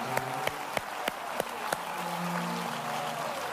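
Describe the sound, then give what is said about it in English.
A church audience claps and shouts praise to God in a full, steady wash of applause, with sharp rhythmic claps punching through at a brisk beat for the first couple of seconds over low sustained musical tones. “And if this church would one more time clap your hands and give a shout of praise to God.”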